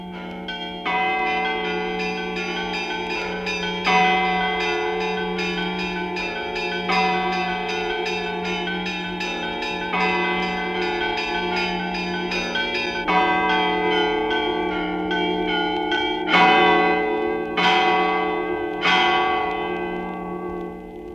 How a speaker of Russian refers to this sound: Напоминающий звон небольших городских колоколен резко контрастирует с приподнятыми праздничными ростовскими звонами. В нем участвуют только средние колокола, а исполняет будничный звон один звонарь.